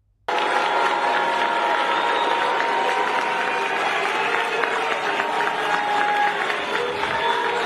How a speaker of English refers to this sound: Look what happened to her as she was at a FDNY for a Fire Department of New York event. And she wasn't just booed at this firefighter ceremony. She was met with a very interesting chant.